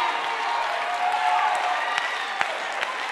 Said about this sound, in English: So you can clap your hands in here all you want to.